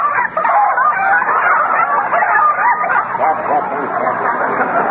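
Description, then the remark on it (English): A crowd of chickens from next door squawks and cackles frantically and loudly in a continuous flustered clamor that never lets up as they are shooed out of a garden, with what may be shouting mixed into the commotion. “Oh, my gosh, they're in again. Hey, get out of there! Go on home!”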